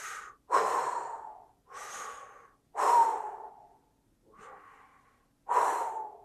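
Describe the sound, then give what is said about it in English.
A person imitates the heavy, labored breathing of their dying, unresponsive father: five or six loud, rasping breaths in an uneven rhythm, each a harsh gasp or exhale trailing off, with short silences between. “So he's laying in a chair in our living room, and his eyes are closed, and he's breathing like this.”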